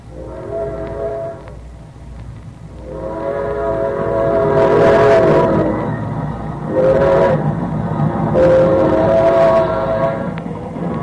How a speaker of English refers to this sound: We don't get to see a train very often. Sure looks good. Yep, just gliding along. Makes you wish you were sitting on them nice cushioned seats, now don't it?